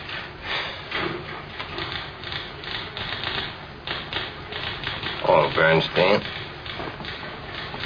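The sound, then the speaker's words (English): Steady, rapid typewriter typing as someone finishes writing a review notice, crisp keystrokes clacking in quick bursts, with a brief brighter ring and louder strokes near the end, as if the carriage returns. “Get me a typewriter. I'm going to finish Mr. Leland's notice.”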